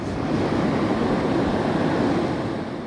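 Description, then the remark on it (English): Wastewater from a fertilizer plant gushes steadily out of big pipes into the Nile River in northern Aswan, Egypt, a continuous loud rush of churning water with no pauses and no voices. “Wastewater flows out of big pipes and into the Nile in northern Aswan, a city in Egypt's south.”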